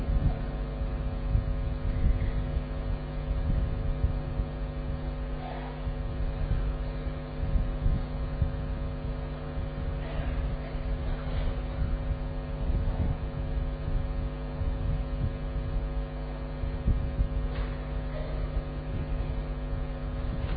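A steady electric fan hum drones on without a break, a low motor tone with faint rattly whirring layered over it, even in volume throughout, with no one speaking.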